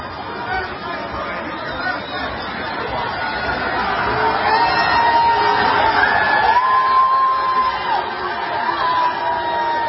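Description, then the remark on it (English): A large stadium crowd roars and cheers as Trump walks out into the stadium, a dense wash of chatter and shouts, swelling louder after the first few seconds and holding steady, with occasional higher whoops rising above the din. “People notice he's there and start cheering him on.”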